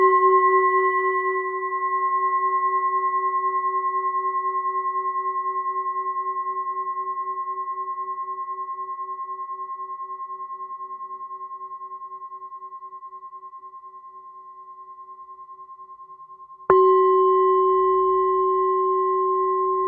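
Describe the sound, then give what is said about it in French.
A raw 620-gram Tibetan singing bowl tuned to F sharp struck twice with the leather side of a mallet: a warm, layered ring that sustains and slowly fades for about sixteen seconds before a second strike renews it. No talking. “On écoute ce bol de 620 grammes, donc c'est un bol tibétain brut, tonalité de fa dièse.”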